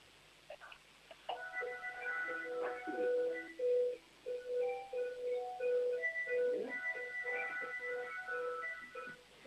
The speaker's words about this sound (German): Wow. Spielt eure Türklingel ein ganzes Lied? Ja, das ist ein ganzes Lied bei uns.